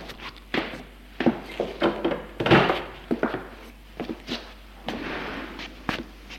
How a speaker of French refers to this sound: Il va ouvrir la porte de la cuisine.